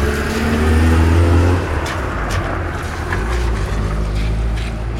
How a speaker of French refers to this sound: Voilà, il y a un camion poubelle qui a décidé voilà. D'arriver nous suivre.